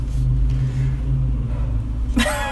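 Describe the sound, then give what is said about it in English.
A car drives through a lit parking garage with a steady, deep engine rumble that fills the space, and a brief brighter whoosh of noise rises near the end. “We're in a lit parking garage.”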